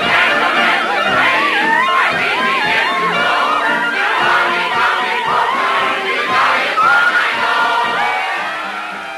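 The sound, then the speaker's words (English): A rowdy group of men in a pub sings together loudly, raising their pints, voices overlapping in a boisterous chorus that carries on steadily before easing off slightly at the end. “Turns around to conduct the singing men who raise their pints.”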